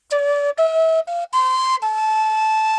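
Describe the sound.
Someone whistles the lead melody of a song, a short melodic phrase of about five sustained notes that step up and down in pitch, loud, with no talking over it.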